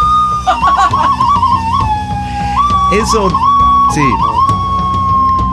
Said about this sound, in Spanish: eso que están escuchando ustedes, no. Es como un silbato, pero en realidad tiene una calavera. El diseño es una calavera